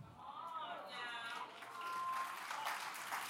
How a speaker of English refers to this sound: Yeah, you could go ahead and clap. It's something to the glory of God. For 60 years, I've been saved.